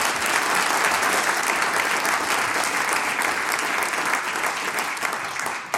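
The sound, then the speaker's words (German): Sustained, dense applause from a crowd at a singers' and musicians' gathering in Hengsberg, honouring the volunteer brass-band players on stage; a steady wash of many hands clapping at an even loudness for several seconds before easing slightly at the end. No voices stand out. “Gratulation und großen Applaus für dieses ehrenamtliche Engagement.”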